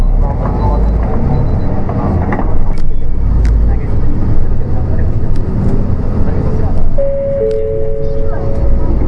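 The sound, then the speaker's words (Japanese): Steady low engine rumble and road noise from inside a moving city bus bound for Ishikari Chosha-mae via Tonden and Hanakawa Minami, with rattles and occasional clicks, and a recorded Japanese announcement voice giving the route and next stop over it; a brief chime tone appears near the end. “このバスは朝17番屯田4番通り花川南1条6丁目南番名黒通り経由石狩庁舎前行きでございます。”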